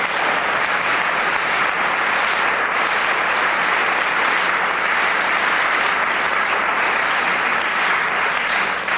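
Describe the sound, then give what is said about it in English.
A large audience applauds loudly and steadily, a dense wash of clapping that holds for the full nine seconds with no one speaking over it. “The applause tells us everything.”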